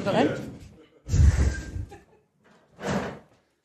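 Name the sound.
door opening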